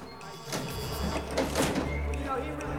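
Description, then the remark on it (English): A utility room door inside a building opens as Dodge uses a stolen pass to enter, with a few sharp mechanical clicks and a scraping whoosh, over a steady low hum. A voice is heard speaking over it. “Inside, Piper and Dodge walk up to a utility room door. Dodge uses a stolen pass to enter.”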